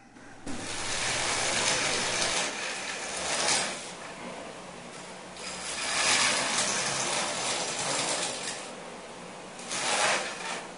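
A saw grinds through dry ice in a harsh, rasping roar that swells and fades in repeated strokes every few seconds, with a hissy, squealing edge and no voices.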